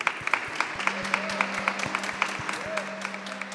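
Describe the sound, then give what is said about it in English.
An audience at a worship service applauding God: dense, steady clapping fills all three-odd seconds at moderate loudness, while sustained low instrumental tones and soft regular thumps sound underneath. “Why don't we give God a round of applause just for making today?”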